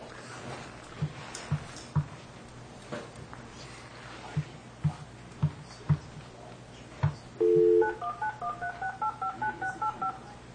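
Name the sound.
telephone keypad dialing tones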